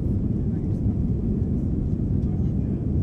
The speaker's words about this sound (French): Je suis plaquée contre mon siège, l'avion prend son élan. Je vois défiler le petit aéroport de Faa, les roues d'école du tarmac tahitien.